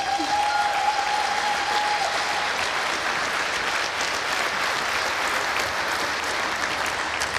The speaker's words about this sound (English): The next team here on stage will be the Logistics Operations Center. Big applause for them already.